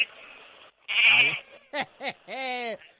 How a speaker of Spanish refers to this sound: A ver, pon, a ver si escuchamos algo. Pon el teléfono, que escuchemos algo a las ovejitas.